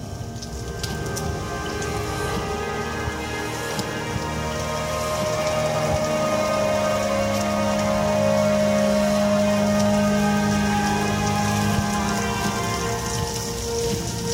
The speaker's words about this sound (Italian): uno dei tanti brani con il temporale, questa volta però è alla fine, eh?